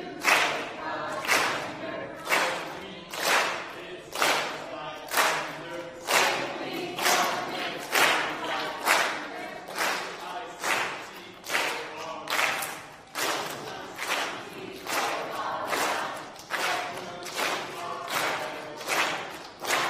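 The green team, the night's winners, chants a rhythmic group cheer, punctuated by steady, evenly spaced claps or stomps at a brisk pace for the full stretch, loud.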